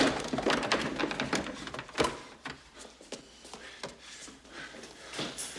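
A wooden chair is shoved and wedged under the doorknob of a house's front door: scraping clatters and knocks, with one sharp thud partway through, then quieter rattling.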